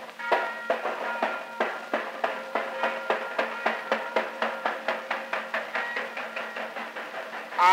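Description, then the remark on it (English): A steam train pulls away from a station carrying passengers to the county fair, its rhythmic puffs starting slow and steadily quickening, with a sustained tonal hum underneath and a louder burst right at the end. “Everybody's on the train, ain't they? Yes, we're all here. Let her go, conductor. All aboard.”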